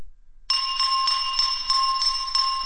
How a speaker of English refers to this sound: Draco Malfoy resumed tapping his spoon against his water glass, creating a clear, ringing chime.